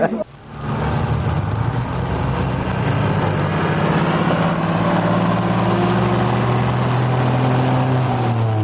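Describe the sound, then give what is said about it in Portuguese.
A bus engine idles steadily and loudly after a brief start, its deep rumble holding constant throughout, as the bus to Marilândia waits to depart. “Você também vai pegar o ônibus para Marilândia? É verdade. Entre, o Calhambeck vai sair.”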